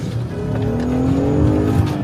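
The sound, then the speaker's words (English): A car engine revs and accelerates as the driver escapes people trying to block the vehicle, its rising harmonic tones climbing steadily as it pulls away, loud with a faint tire squeal at the start. “So they drive off.”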